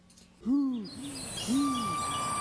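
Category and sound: bird, owl hooting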